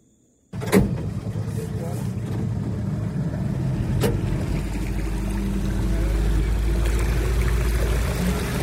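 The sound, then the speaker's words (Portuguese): A motorboat engine starts up after a brief silence and drones steadily, its low rumble swelling as the boat gathers speed through a flooded tropical forest, with wind and water noise and some indistinct voices underneath. “Ainda temos um trajeto de uma hora de barco através da floresta inundada.”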